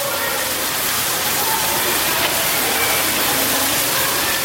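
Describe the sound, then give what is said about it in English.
A shower runs steadily as boys soak themselves, a dense, unbroken hiss of spraying water that stays bright and even in loudness from start to finish, with no pauses or voices. “Boys soak themselves in the shower.”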